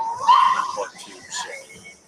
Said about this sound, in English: we hear the barking dogs in the background too. I want to get one of the dogs in the boat. So they're trying to get them calmed down over there, so sorry for the background of that.